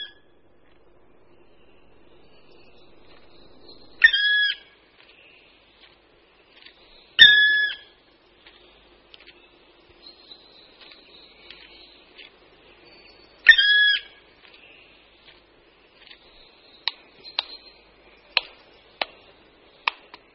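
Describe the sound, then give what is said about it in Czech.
A black woodpecker, the largest local woodpecker, climbing a tree trunk and chiselling with its bill, gives three loud, ringing calls spaced several seconds apart in a quiet forest, followed by a series of sharp, distinct taps or knocks near the end. “Toto zvučné, melodické a daleko slyšitelné volání můžeme slyšet nejen v Boubínském pralese, ale i v pražské Královské oboře.”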